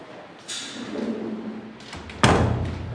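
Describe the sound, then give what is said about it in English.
A door is pushed shut with a soft scraping slide, then closes with a single solid thud, followed by a brief low rumble as it settles. “I'll shut the door.”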